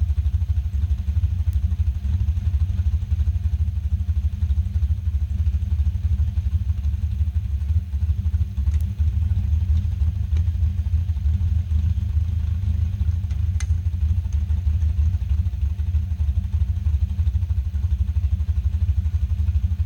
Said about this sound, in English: Sounds tame, doesn't it? It's just idling. It's just idling. There's a muffler on this thing.